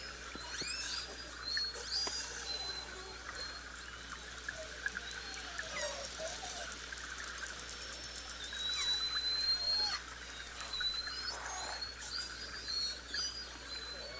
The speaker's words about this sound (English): Right on cue, an animal we might call apex. A southern resident orca this way comes, navigating through the sea with their clicks, buzzes, and hums.